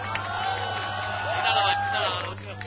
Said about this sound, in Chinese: 咁但系今日香港人网咧，阿萧若元就喺维园开卖，大家俾啲掌声啊，老萧好嘛？